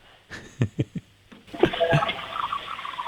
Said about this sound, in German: Ja, das hat man leise gehört. Das hat nach einer Klospülung geklungen.